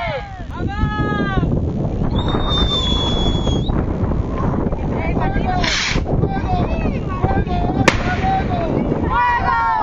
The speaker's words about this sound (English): Several of the demonstrators used a metal tube to shoot off rockets from behind the banner, and the explosions reverberated off the concrete walls of the cell blocks as if the entire world were shaking.